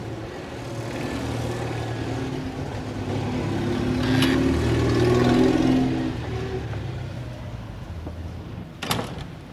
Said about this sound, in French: Nous allons entrer pour nous abriter un petit peu des bruits de la circulation.